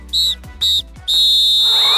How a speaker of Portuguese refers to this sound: Apito árbitro, fim de jogo!